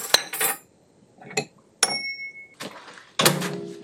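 Kitchen sounds as food is warmed in a microwave for a minute: a few sharp clinks and clatters of dishes and cutlery, a door-like clunk, and a short steady electronic microwave beep as it is switched off, with no one talking.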